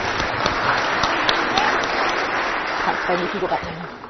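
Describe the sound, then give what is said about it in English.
A steady round of applause from a church audience for children from Sunday club answering questions about prayer, dense clapping that stays fairly even throughout, with a few voices calling out over it near the end before it starts to fade. “A wee round of applause now.”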